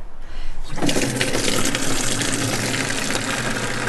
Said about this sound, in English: You can hear me over the high-powered water butt coming out.